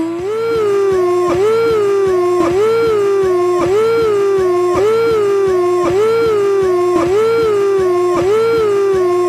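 A loud air-raid siren wails on its own, its piercing tone swooping up and down in quick, regular cycles, roughly one per second, without pause.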